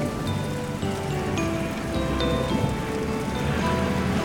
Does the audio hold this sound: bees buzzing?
no